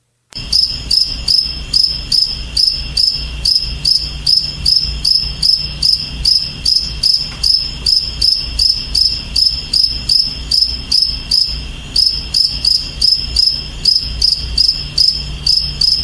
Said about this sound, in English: And I need everybody to count the amount of chirps until we agree on an exact chirp number.